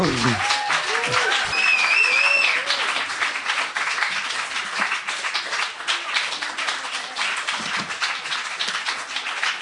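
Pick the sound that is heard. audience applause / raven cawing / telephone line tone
audience applause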